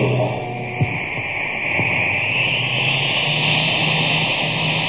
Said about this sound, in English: Boy, that cosmic surface car is really roaring now. That's because it's supercharged with super fuel.